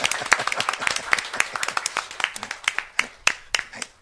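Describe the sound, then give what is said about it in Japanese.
A crowd applauds steadily, many hands clapping in a dense, lively burst that holds for several seconds with sharp individual claps standing out near the end as it begins to thin. “気にしないで、はい、拍手してあげてください。”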